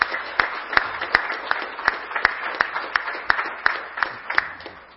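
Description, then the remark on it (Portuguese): An audience applauds the anonymous members of the community, a dense patter of many hands with sharper individual claps standing out at irregular moments, holding at a moderate level for the whole stretch. “eu quero, para aqueles que são anônimos da comunidade, recebam o nosso aplauso nesse momento, por favor, os anônimos.”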